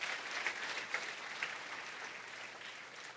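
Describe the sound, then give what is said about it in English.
A church audience applauds for Jesus in a steady, dense wash of clapping that stays fairly even for a few seconds, with a few sharper claps standing out early before it slowly tapers. “Can we just give Jesus a big, big round of applause for that?”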